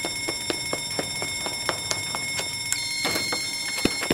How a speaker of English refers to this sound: One false smoke alarm coming up. Everyone get ready. Once we hear the alarm sound, we'll run out the emergency exit doors together.